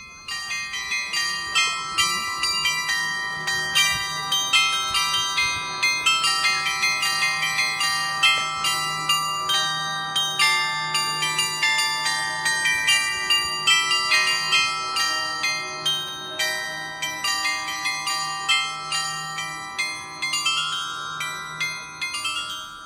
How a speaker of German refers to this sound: Hier sieht man Wohn- und Geschäftshäuser aus dem 19. Jahrhundert, wie das Haus der Unternehmensfamilie Brose, an dessen Fassade viermal täglich ein Glockenspiel erklingt.